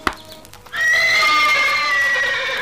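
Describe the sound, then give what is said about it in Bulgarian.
A startled horse lets out a loud, sustained whinny, its high wavering cry lasting a couple of seconds after a brief thump and a few faint hoof clops. The horses were frightened by a boy striking his cap on the ground. “Защо подплаши конете?”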